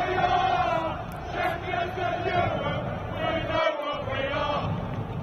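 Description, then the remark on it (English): A large crowd of football fans sings together in a sustained, swelling chant, many voices blending into a loud, continuous roar with a steady melodic drone. “But can you hear them? Now they're singing it back to us.”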